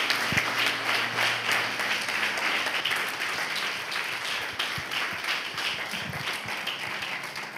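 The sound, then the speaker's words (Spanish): A church audience applauds God steadily, many hands clapping in a dense, sustained wash of sound that holds at an even level throughout, with no voices speaking over it. “Dele un fuerte aplauso a nuestro Dios, porque se merece la alabanza, la gloria y la honra.”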